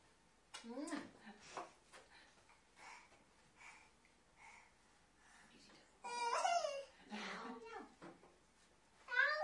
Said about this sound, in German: Katze war das.